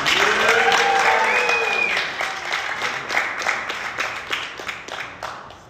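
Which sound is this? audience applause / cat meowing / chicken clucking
audience applause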